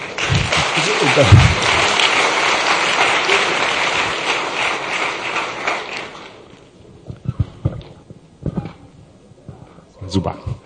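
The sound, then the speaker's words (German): A crowd applauds the young people with dense, steady clapping for about six seconds, then it thins into scattered claps and a few isolated taps as voices murmur underneath. “Auch einen Applaus nochmal an unsere Jungen.”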